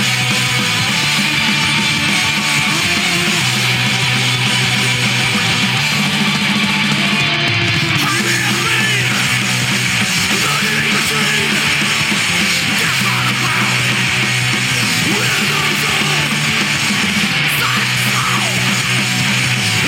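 Loud, dense scream punk plays throughout, with distorted guitars, pounding drums and harsh yelled vocals blurring into a continuous wall of noise.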